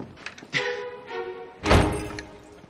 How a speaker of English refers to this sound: Conrad slams the door.